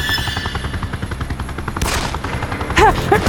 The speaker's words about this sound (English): The gusting wind made it hard to exactly peg the direction of the blast. The subsequent shots gave her bearings. They were clearly pistol shots, likely 9mm.